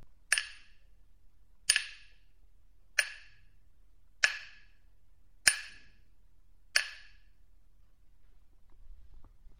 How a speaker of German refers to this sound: Und der große Hammer des Schmiedes knallte auf das heiße Eisen auf dem Amboss, sodass die Funken nach allen Seiten flogen.